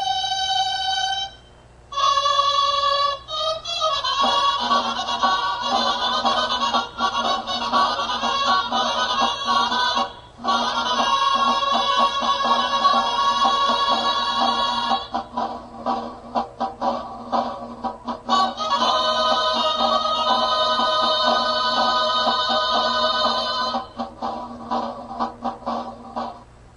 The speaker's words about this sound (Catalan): Totes van ser acompanyades pel tradicional toc del castell.